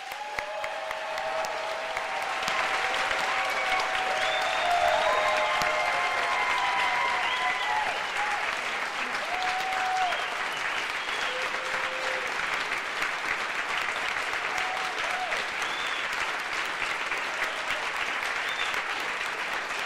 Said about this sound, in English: And I know you're watching, so I'd like the whole, anybody in the community who feels so moved to offer some applause and gratitude to you.